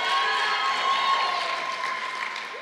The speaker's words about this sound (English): That's my beautiful wife. Can we give her a round of applause there? Thanks.